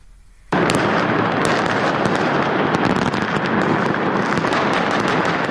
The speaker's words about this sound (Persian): آتش‌بازی در میدان اموی در مرکز دمشق در لحظه تحویل سال 2025، شادی سوری‌ها در اولین تحویل سال نو پس از سقوط رژیم اسد نمونه‌ای از امیدواری‌هایی بود که مردم سراسر جهان برای سال جدید داشتند.